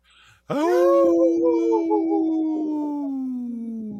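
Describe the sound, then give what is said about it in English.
A single long wolf howl rises in abruptly, then holds a steady, mournful tone that sags slowly in pitch over several seconds, loud with no one talking. “we'd like to bring awareness to our Minnesota and Wisconsin wolves.”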